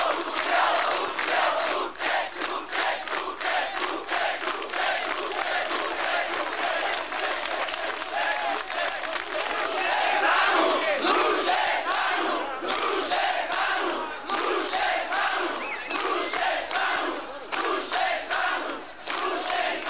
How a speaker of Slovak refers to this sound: Večer toho dňa sa na námestí pod Hviezdoslavovou sochou zíde mnohotisícový pražskou tragédiou zburcovaný dav Bratislavčanov.